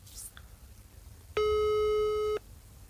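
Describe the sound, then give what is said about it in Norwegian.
A single steady telephone ringback tone sounds for about a second, a clear mid-pitched hum with bright harmonics, standing out over low background murmur and a faint high chirp at the start. “Skal du faktisk ringe henne nå? Jeg ringer nå, så...”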